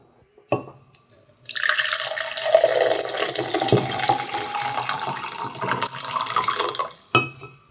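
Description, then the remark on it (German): Tea is poured steadily into a cup for several seconds, a continuous splashing stream that starts after a soft click and ends with a brief clink. “Ich muss mir hier schnell ein bisschen Tee einschenken.”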